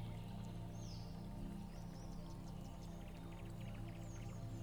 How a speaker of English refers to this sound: Up ahead, a narrow creek gurgles over a bed of rocks.